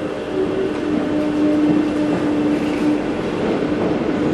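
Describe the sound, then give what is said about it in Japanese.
A white and green train, one that appears in the film Ronin, rumbles steadily along the rails with a continuous low roar and a faint tonal hum, without any talking. “そう、映画浪人にも出てくるこの白と緑の電車。”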